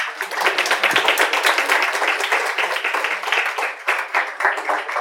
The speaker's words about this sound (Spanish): Un aplauso, por favor.